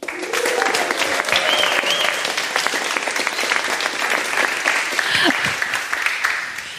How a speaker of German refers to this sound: Wenn du in der letzten Sendung schon dabei gewesen bist, weißt du schon, dass wir Publikum dabei haben. Aber zum Beweis, dass das Publikum da ist, ist es bereit für einen weiteren Applaus.